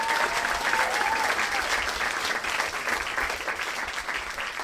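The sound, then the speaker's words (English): A crowd applauds the storytellers at the end of an evening of storytelling, a steady, dense wash of clapping that stays loud throughout with slight fading toward the end, with no one speaking over it. “Just give a final round of applause to all the storytellers tonight.”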